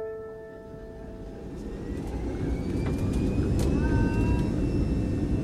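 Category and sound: vehicle, airplane engines roaring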